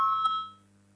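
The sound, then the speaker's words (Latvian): A single bright electronic chime, the voting signal bell in a parliament chamber before a vote on a legal bureau proposal, rings out, a clear tone with a brief second strike that fades within half a second, leaving only a low steady hum. “Lūdzu, zvanu, balsosim par 9. juridiskā biroja priekšlikumu.”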